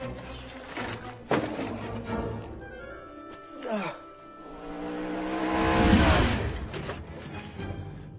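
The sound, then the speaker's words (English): A car engine revs hard, its pitch climbing in rising sweeps that swell to a loud peak before easing off, with a sharp clunk early on and steady engine roar throughout. “way you can beat me with this engine”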